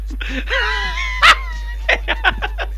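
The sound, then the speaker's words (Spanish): A dog whines, lets out one loud, sharp bark, then follows with a quick run of five or six shorter barks and yips, clear with no talking. “Estás más cabreado que a un jienense al que le quitan el perro.”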